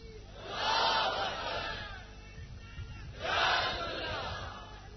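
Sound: crowd chanting slogans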